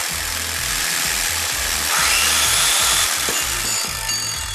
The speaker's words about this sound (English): Oh, we got jigsaws.